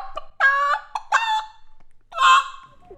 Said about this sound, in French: On a la chance d'avoir un jardin et un petit poulailler. On a une poule blanche, Mimosa, et une poule noire, Calamity.